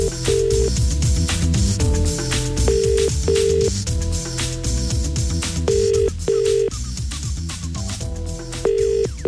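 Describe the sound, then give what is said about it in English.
A telephone call being placed to Everton football club: short electronic dialing tones, then a repeating ring in steady bursts, over a dense, busy background with no voices. “All right, let's make a call.”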